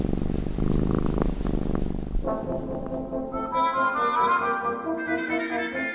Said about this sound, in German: Zum Glück hat die Katze jetzt wieder allen Grund zum Schnurren.